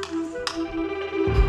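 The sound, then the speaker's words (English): A few light, sharp taps spaced irregularly, one more pronounced than the others, over a steady mid-pitched hum, with a low rumbling thump near the end. “Hear that? Tap, tap, tap.”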